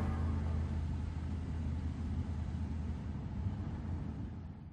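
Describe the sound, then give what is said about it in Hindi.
A steady engine hum and low rumble of a car in motion, continuous and fairly loud throughout with no voices or distinct events. “हाँ ठीक है, लेकिन गाड़ी आगे देख के चलाओ ना।”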